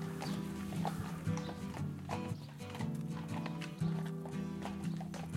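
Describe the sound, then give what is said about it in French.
Heavy hooves clip-clop steadily on a hard surface, draft horses pulling the Radio Roulotte caravan at an even pace, with a brief whinny and continuous low rumbling underneath. “on veut faire de la radio dans une roulotte tirée par des chevaux de trait.”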